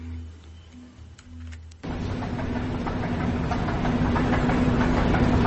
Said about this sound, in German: Eine U-Bahn-Station aus den 70er Jahren. Sie ist üblicherweise wenig frequentiert, da man hier in keine andere U-Bahn-Linie umsteigen kann. Der Boden und die Verkleidung der Wände sind aus glattem Stein, was zu einer langen Nachhallzeit an diesem Ort